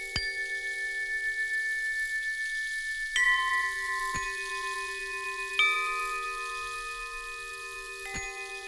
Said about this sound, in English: Wind speaks through the chimes.